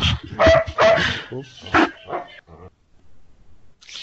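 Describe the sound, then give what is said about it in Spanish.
A dog barks several times in a quick, loud burst, the yaps tumbling over each other before falling silent, with a faint noise at the very end. “Perro no hablo, soy un poco perro, pero perro no hablo.”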